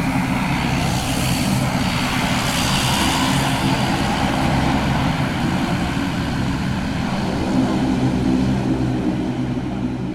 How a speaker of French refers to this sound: Devant nous, il y avait ce fameux avion-là, le Dash, avec des pilotes qui sont installés et puis qui ont dû démarrer